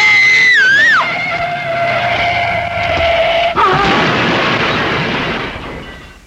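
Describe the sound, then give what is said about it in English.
A car whose brakes are not working skids with a loud, wavering screech of tires, then slams into a tree in a heavy crunching crash that rumbles with debris before fading out. “It was a tree we hit.”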